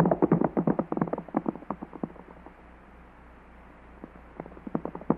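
horses galloping

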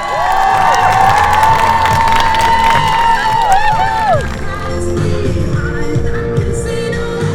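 crowd cheering

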